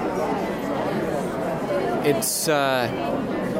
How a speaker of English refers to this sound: It's a very enthusiastic crowd. Everybody's had a good time. People have met up with people they know and made some new friends.